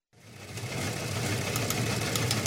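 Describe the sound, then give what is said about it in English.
An old news wire machine hums steadily, a constant low mechanical drone with faint rhythmic clattering and ticking layered on top. It starts abruptly and holds an even, moderate loudness with no voices. “All right, the old wire machine is humming in the background.”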